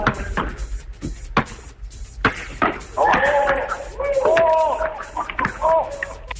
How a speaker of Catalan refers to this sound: I aquesta que acabem de sentir, amb el so típic de la càmera d'un telèfon mòbil, és del nou fitxatge del Barça, el brasiler Marcelinho Huertas. El base culer al centre de la pista i assegut a terra, encistella netament la pilota.